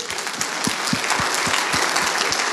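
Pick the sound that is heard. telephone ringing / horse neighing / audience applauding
audience applauding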